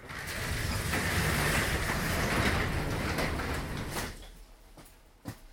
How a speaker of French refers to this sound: Peut-être plus tard cet hiver, là, mais qu'il y a un redoux, mais là, il fait froid, donc on va fermer la porte.